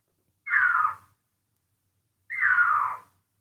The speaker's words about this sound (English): I want to hear what it sounds like. Yeah, now we got to hear the sound. I don't think I've ever heard a mountain lion scream. That's fucking terrifying. That sounds like a person screaming. Yeah. That's unsettling.